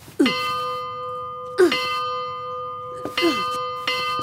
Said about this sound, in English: If you see the military approaching or moving about the village, immediately come here to the church and ring the bells. I will. Let me hear you ring them in the same pattern.